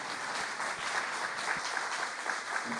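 Steady audience applause, a dense wash of many hands clapping at an even level throughout, with no voices breaking through.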